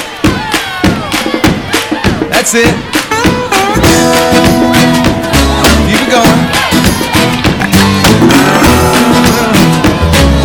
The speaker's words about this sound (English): You guys stomp your feet like that? And let's clap together.